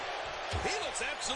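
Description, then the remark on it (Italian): A single heavy, low thud of an elbow strike by Ziggler landing in the wrestling ring, sharp, with a voice talking around it and a busy crowd-like background. “Gomitata da parte di Ziggler.”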